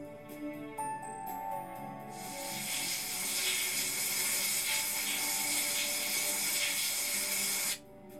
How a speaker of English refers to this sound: You get naked in the bathroom, the shower gets turned on.